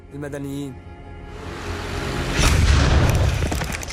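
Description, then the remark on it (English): A voice calls out briefly, then noise builds before a truck blows up in a massive, deep, booming blast that knocks over the person holding the camera, followed by a loud, sustained roaring rumble that lingers to the end. “A truck blows up, and the person holding the camera is blown over in the blast.”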